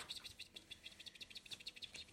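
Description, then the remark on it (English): A voice imitates a bird's chirp: a rapid, steady run of about fifteen shrill, high-pitched chirps with no talking. “She makes a weird sound. She's half bird. half octopus.”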